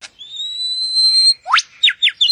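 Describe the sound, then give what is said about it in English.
A bird sings a long, steady high whistle followed by three quick upward-sweeping chirps, clear with no talking, in a David Attenborough nature documentary clip. “That damn bird's ruining everything.”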